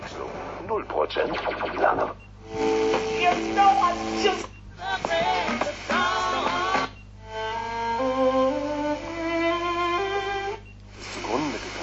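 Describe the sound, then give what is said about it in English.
A radio in preset mode hops between preset stations every few seconds, each brief burst of broadcast voices or music cut off abruptly, with a steady hiss of static running underneath throughout. “It finds the next station very quickly, so I am in preset mode. Let's zap a little bit.”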